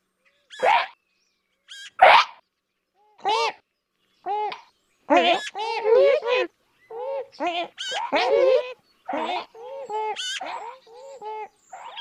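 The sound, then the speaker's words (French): A blue magpie gives a run of short, squeaky harmonic calls and chatters in irregular bursts, clear with brief silences between, and no talking. “Oiseau mystérieux, la pie bleue pousse des cris discrets.”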